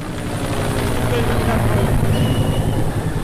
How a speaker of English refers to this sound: Meredith said that these helicopters were flying really low overhead the whole time she was there